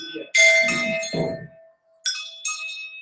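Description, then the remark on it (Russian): A small temple bell at the Manasi Devi mandir is struck by visitors announcing their arrival, giving a bright metallic clang with a rattle and a ringing tone that fades slowly, then two quicker, lighter strikes chime in succession. “Бейте в колокольчик, что вы пришли.”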